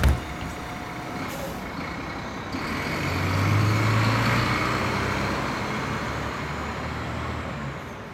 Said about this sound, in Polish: O! Mój autobus jedzie.